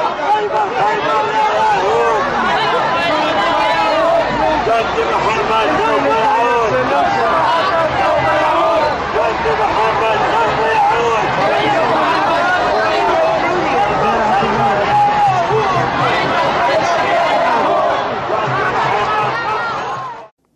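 Dense crowd chatter at a pro-Palestinian rally in Times Square fills the whole clip, many overlapping voices forming a steady, loud babble with no single speaker standing out, holding constant for about twenty seconds.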